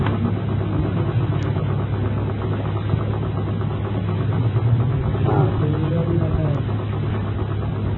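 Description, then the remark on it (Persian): A motorcycle engine idles, a steady low rumble that holds at an even loudness for the whole stretch, with slight mechanical rattling in its tone. “اینا چطور از این در میان؟ این در بازه؟ موتور آورده.”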